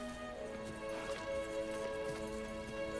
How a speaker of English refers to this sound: The Queen, wearing a waist-length red wig and shiny silver armour, arrives on a white horse and halts before her men.